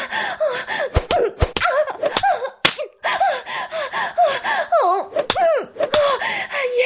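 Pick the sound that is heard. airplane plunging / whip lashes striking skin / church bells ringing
whip lashes striking skin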